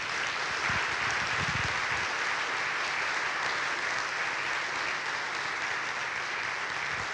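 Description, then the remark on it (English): A church audience applauds for God and for a group of students with steady, dense hand claps that hold at an even, loud level for several seconds, with no one speaking over it. “And although we don't always clap in church, we're going to give a big hand clap for God today and for the gift of these students.”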